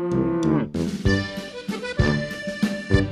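A Montbéliard cow moos: a long, deep low at first, then shorter lows with sharp bright clanks cutting in, continuing without any talking.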